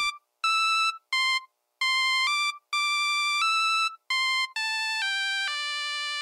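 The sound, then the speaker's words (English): A Nokia cell phone ringtone plays a tinny, synthesized, bouncy melody of short beeping notes, some held longer, clear, with no voices. “Or at least a Nokia cell phone version of ….”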